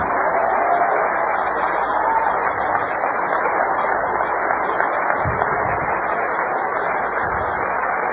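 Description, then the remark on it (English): A church audience claps hands for the Lord during a sermon in a steady, dense wash of applause that holds at an even, fairly loud level for the full stretch, with no voices rising above it. “Would you just clap your hands and love the Lord one more time?”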